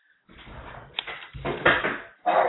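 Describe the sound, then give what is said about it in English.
A door opens, followed by a run of muffled clunks and scraping as neighbors move things around outside, with irregular bumps and a louder thud near the end; no one speaks. “just walked in the door, and there was like a bunch of noise outside. They're moving stuff around.”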